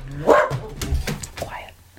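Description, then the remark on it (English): A dog barks a few times in the background, with a sharp, strong bark near the start followed by quieter ones, while a man's voice talks over it. “Then I've got a dog barking there in the background, people.”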